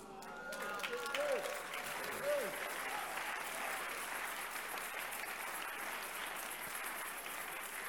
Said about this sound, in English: All the proud people are not clapping for Jesus, but those who are clapping, you'll get more from the Lord.